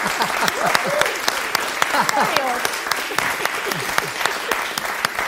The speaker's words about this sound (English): It really doesn't deserve a round of applause.